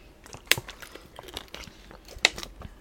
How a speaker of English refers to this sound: I'm going to take a sip of water now.